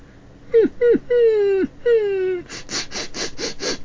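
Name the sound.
dog whimpering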